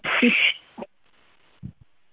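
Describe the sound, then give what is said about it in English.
A loud, harsh bird squawk lasting about half a second, followed by a few short, fainter calls after brief pauses, heard outdoors in Louisiana in an area with lots of trees, with no one talking. “What kind of bird is that that's making that loud squawk?”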